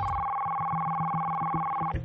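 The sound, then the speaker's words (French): A telephone ringing with a steady electronic dual-pitch tone that holds for about two seconds and then cuts off abruptly. It is fairly loud, with no voices. “On va écouter les appels téléphoniques parce que certains ont réagi au téléphone.”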